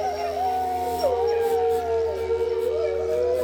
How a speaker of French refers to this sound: Et le loup aussi. Donc on est à fond dans le thème et on va se quitter là-dessus, sur ces hurlements.